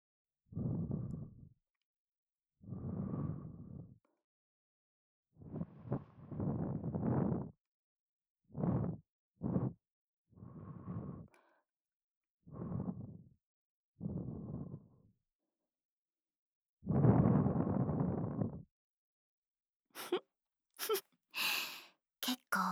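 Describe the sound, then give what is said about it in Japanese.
A series of soft, warm breaths puffed into the ear, about a dozen short exhales with brief pauses between them, followed by a few crisp clicks at the end. “もっと味わっていいんですよ。私の生温かいゾクゾクする吐息。”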